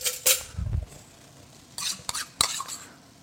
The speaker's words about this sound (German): Jetzt bereite ich das Tomatenmark vor. Das wird auch nicht mitgeröstet mit dem Hackfleisch, sondern ich spritze das jetzt hier oder ich packe das einfach in so einen Messbecher rein und verrühre das ganz schlicht mit Wasser.